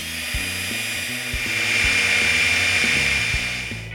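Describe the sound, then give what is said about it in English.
A power drill grinds steadily into a steel safe found in a scrapyard, drilled by a safe expert to open it. A continuous high-pitched whine with a low motor hum shifts underneath as the bit bites, running for the whole stretch without any talking. “Okay, I decided to drill it right here.”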